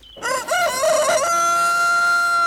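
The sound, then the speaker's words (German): A rooster crows once, loud, its call rising in a few choppy bursts before stretching into a long, steady held note that carries to the end. “Das war nur der Hahn.”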